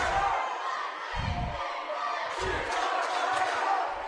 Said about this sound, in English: We'll keep it here. Let you hear this crowd a little bit.